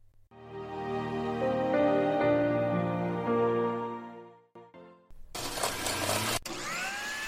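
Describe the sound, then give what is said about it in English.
A loud blender whirs with a steady motor tone for several seconds, then breaks into a harsh, rattling grind as Bluetooth earbuds put in it get chewed up, ending in a noisy clattering burst. “Jill, what did you put in the blender? My Bluetooth earbuds.”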